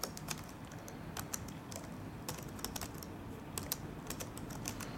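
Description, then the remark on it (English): Quick, irregular keystrokes clatter on a computer keyboard as someone types into the NVDA screen reader, run from a USB stick, sharp clicks arriving in short bursts over a steady low hum, moderately loud, with no voices. “Typing in NVDA there.”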